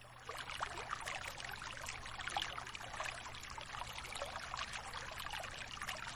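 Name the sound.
flowing water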